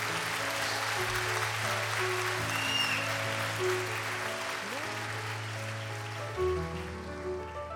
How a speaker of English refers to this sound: So please, let's pray and sing for all those American soldiers who are fighting wherever they are, and you can clap for them too. You can.